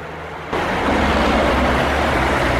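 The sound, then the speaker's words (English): A loud, steady roar of heavy road traffic swells up suddenly and then holds, a dense rumbling wash of heavy timber trucks passing a road junction, with no voices. “He sees the young woman standing at a junction with her hitching sign, being ignored by the heavy onslaught of timber trucks.”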